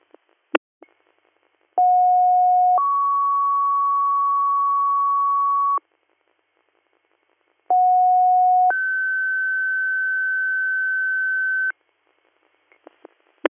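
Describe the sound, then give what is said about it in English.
Two dispatch alert tone sequences for a Greer Valley call to Tioga Downs, each a short steady pitch that jumps to a longer higher tone, separated by a brief gap. Loud, clean and electronic, with faint radio clicks at the start and end. “Mouse, disregard your tones.”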